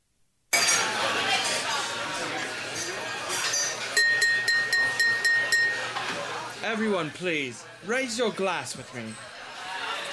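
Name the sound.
glasses clinking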